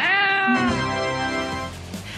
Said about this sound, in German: Ihr habt ja schon die Katze gehört.